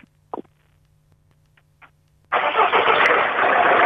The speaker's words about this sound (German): So, das Geräusch des anspringenden Motors haben wir. Jetzt darf der Herr Kessler noch 3 Fragen stellen. Genau, die üblichen Sachen. Wie alt ist das Auto? 2005. Und die Karosserieform? Cabrio.